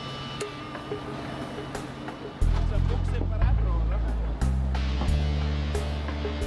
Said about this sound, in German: Aber guckt mal, das ist der Baum, den wir gefällt haben. Und den stellt der Riesenkran jetzt auf.